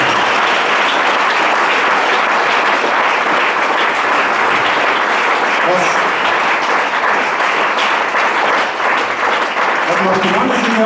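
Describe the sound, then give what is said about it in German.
Sustained audience applause, a dense, steady wash of many hands clapping that stays loud for about eleven seconds, with a voice faintly emerging near the end. “Wir Tiroler Grüne haben dem Land Tirol und allen Tirolerinnen 400 Millionen Euro gespart und ich finde, dafür hätten die Grüne uns einen Applaus gegeben.”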